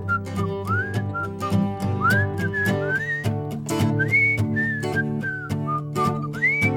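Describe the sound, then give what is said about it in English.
A group whistles a bouncy melody together over steady instrumental backing, the pitched whistle notes sliding up and down in a lively, rhythmic tune with no talking. “I can whistle a tune. Let's whistle one all together.”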